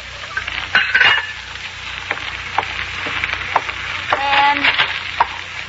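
Pots and pans clatter in a kitchen over a steady sizzle of frying food, with scattered sharp clinks and a brief metallic ring, close by and moderately loud, no voices.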